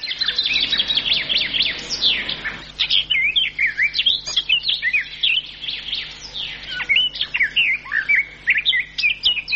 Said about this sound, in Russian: Птичьи голоса в городах пытаются пробиться к людям сквозь шум автомобилей и бывают слышны здесь совсем ранним утром.